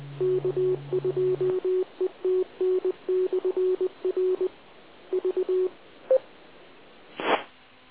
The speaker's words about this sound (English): So it's classic phase distortion, but it's dynamic phase distortion because it's repeater.